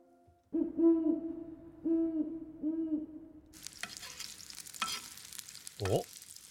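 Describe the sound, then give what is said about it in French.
A few low, mellow hoots repeat in an even rhythm, then give way to a steady, hissing sizzle of bacon frying in a pan, crackling with sharp pops. No one speaks. “Soit de la pluie ou du bacon qui cuit.”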